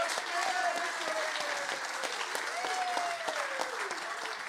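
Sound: audience applause and clapping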